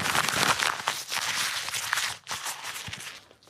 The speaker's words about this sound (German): Die knüllt dieses Blatt Papier zusammen zu einer Kugel.